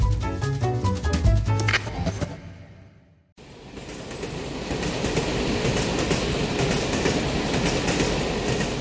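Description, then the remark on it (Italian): An old, fast Trenitalia regional train rolls along the rails with a loud, steady rumble, following a brief burst of tonal sound and a momentary dip to near quiet. “È il rumore di un treno regionale veloce di Trenitalia.”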